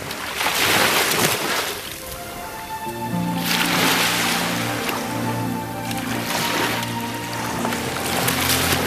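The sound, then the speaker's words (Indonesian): At dawn, grey waves roll in and wash up a sandy beach in repeated surging rushes of white foamy hiss slapping the sand, with a steady low motor-like drone running underneath from partway through. “Remang-remang cahaya jatuh di atas air yang masih berwarna kelabu, bercampur buih-buih putih yang menampar-nampar pasir.”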